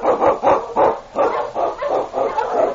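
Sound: sled dog barking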